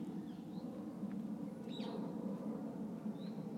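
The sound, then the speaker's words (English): A few faint parakeet calls, short high chirps spaced a second or so apart, sit over a steady low outdoor rumble with no one speaking. “Because the birds are starting to quieten down. Except those parakeets. You noisy little buggers.”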